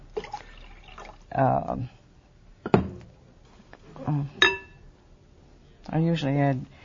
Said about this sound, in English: 8 ounces. Eight ounces. So you drain the liquid from the can.